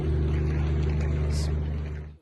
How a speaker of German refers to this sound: Das ist ein Brummen, was uns hier die ganze Zeit irritiert. Ich weiß nicht, ob man das hört. Da steht ein Generator und hunderte von Sky-Zuschauern rufen an und fragen, was soll das Brummen?